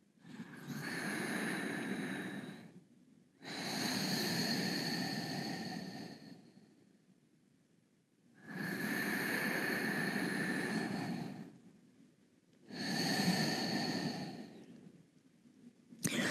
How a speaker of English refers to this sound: Concentrate on this side. I'm breathing for the first two breaths just into the neck, releasing the shards of tension that have accumulated into neck and into inner ears.